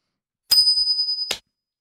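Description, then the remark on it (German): A coin is flipped to decide who goes next, with a bright metallic ping: one high, steady ringing tone lasting under a second, starting and ending with a sharp click, with no talking. “Darfst du noch mal eine Münze werfen, um zu gucken, wer als nächstes dran ist.”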